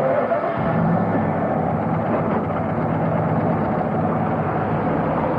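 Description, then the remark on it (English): A hire car pulls away and drives along with a steady, continuous rumble of engine and road noise, fairly loud and even throughout, as if heard from inside the vehicle, with no voices. “we're wafting along in this car.”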